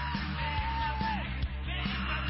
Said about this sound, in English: and everybody in this arena doing the same as Katie Ledecky smashes her own world record. Carlin gets the silver, Smith the bronze, and as expected, Ledecky is on her way to history at these Rio Games. I like how the crowd sounds like.